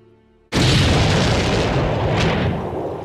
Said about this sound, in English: Meanwhile, ballistics experts carefully laid the charges for a set of spectacular pyrotechnics. At midnight, the residents of Hatfield were woken by a massive explosion.